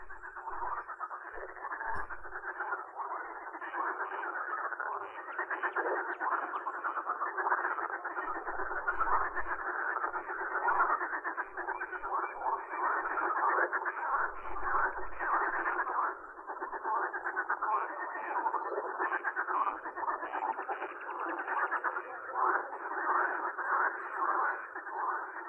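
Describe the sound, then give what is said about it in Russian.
A dense, unbroken chorus of marsh frogs croaking at night, many voices overlapping into a steady loud rattling drone that fills the whole recording without pause. “Слышите? Это дают ночной концерт озерные лягушки.”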